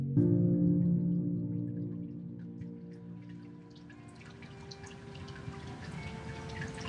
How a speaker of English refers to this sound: the therapist's waiting room with its piped music, the soothing waterfall in the corner, and the incense in the air.